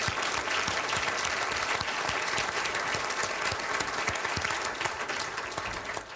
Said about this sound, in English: Will you please join me in applauding their services?